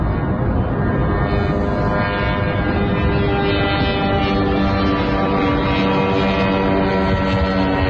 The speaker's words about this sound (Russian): Еще один дрон.